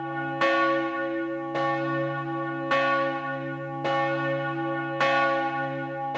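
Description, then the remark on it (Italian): A single church bell tolls slowly as a death knell, five heavy strikes evenly spaced about a second apart, each ringing on with a long resonant hum. No voices. “c'è una sequenza di suoni particolare che permette di capire che si tratta innanzitutto di un suono da morto”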